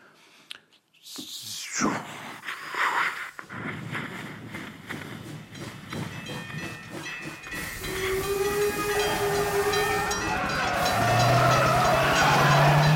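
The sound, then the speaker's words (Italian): A steam train sound effect: a locomotive chuffs and hisses, building from bursts of steam into a steady rhythmic puffing, with a shrill steam whistle sounding over the engine near the end. “Va, sa quanti treni. E passaggi a livelli, inseguimenti d'auto, ho fatto.”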